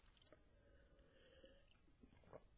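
A quick sip of water: soft wet mouth noises and a faint swallow, with a slightly louder gulp near the end. Quiet, and nobody speaks.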